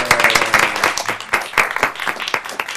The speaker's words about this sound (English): Mayor, can we have a round of applause?